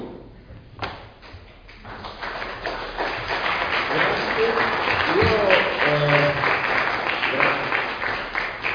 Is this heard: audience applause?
yes